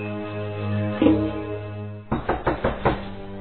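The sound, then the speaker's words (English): A quick run of four or five firm knocks on an apartment door, fairly loud, following a steady low hum and a single soft thud. “Connie is in the kitchen when she hears a knock on the door.”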